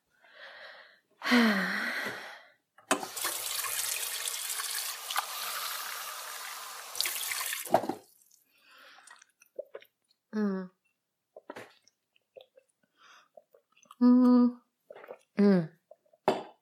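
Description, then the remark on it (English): Water pours steadily into a glass for several seconds at a friend's home, followed by quiet gulping sounds and a few breathy sighs and gasps, as someone drinks thirstily. “Yeah, I could use a glass of water.”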